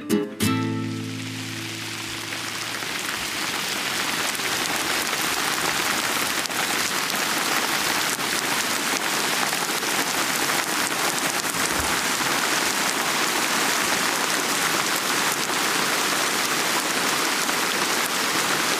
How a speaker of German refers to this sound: Ja, ihr hört es. Es regnet.